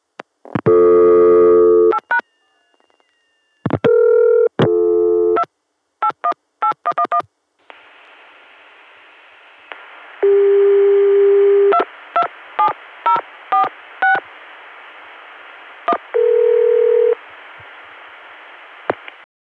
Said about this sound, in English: I don't know why, but I stopped the tape before they answered that time, and on the next call I do the same thing just as they are answering. This is Windsor Locks 227, dialed on a Connecticut dial tone, gotten through 281, Richmond.